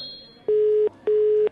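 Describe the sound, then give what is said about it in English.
A telephone ringing tone heard down the line: two short, steady electronic bursts in quick succession, clear and fairly loud, with no voices. “It's ringing.”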